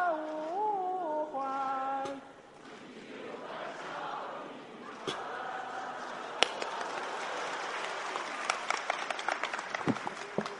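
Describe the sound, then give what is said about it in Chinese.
A few seconds of sung melody give way to an audience breaking into sustained applause after the song, a dense wash of clapping and cheering with sharper individual claps standing out toward the end. “花那么些钱唱这破歌，唱完还鼓掌呢，我说你们点什么好啊，长点心吧。”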